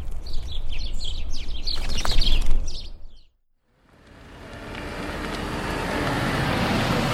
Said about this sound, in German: Viele der Töne kann ich anhand meines Vogelführers einem Bild zuordnen. Die kleinen Wesen halten sich meist im Schutz des Geästes auf.